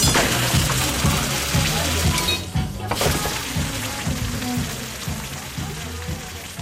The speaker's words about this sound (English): Then the assembled shackle and pin is put into a little pool of deck water, steaming as it cools down.